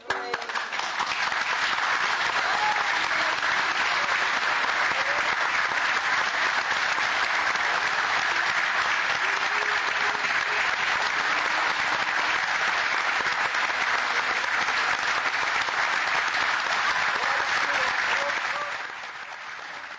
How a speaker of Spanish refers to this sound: Hablábamos recién de los rostros del público. Podemos al menos tener una pequeña escucha de lo que fue los aplausos, de la reacción.